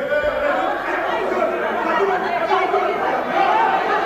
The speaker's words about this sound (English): Last week, the Senegalese parliament broke down after an act of violence led to a full-on brawl. Hear now some of the resulting clamor.